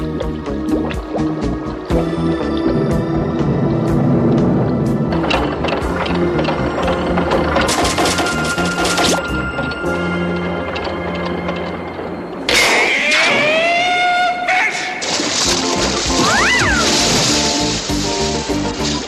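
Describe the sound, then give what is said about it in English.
Loud, continuous bubbling and sloshing water with a muffled, warbling scream that rises and falls, Binky the Clown shrieking while submerged at the bottom of the ocean, ending in wavering, gurgled wails. “And now, hold on to your sandals because it's time for Screaming with Binky. We're at the bottom of the ocean where Binky the Clown has been drafted for underwater exploration”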